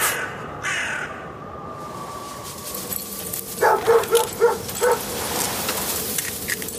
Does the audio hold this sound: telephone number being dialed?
no